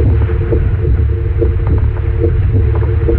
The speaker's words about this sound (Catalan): Aquesta és la primera falca de ràdio feta amb batecs reals de persones que han superat una malaltia cardiovascular.